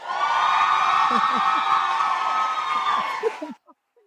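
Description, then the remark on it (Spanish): A live audience at a live show in Bogotá, Colombia cheers and whoops loudly for several seconds, a dense wall of shouts and high yells that cuts off abruptly, leaving a couple of faint voices. “Yo alboroto al público de que yo ya son en esos programas de tele que te dicen de que grita, ríete. Aplausos.”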